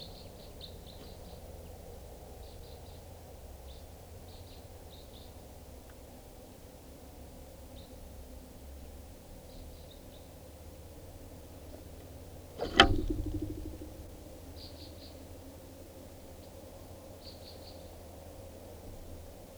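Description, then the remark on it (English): Scattered groups of short, high, clipped crossbill flight calls over a low rumbling background, with one sharp thump partway through. No one speaks. “Another crossbill, 6:57.”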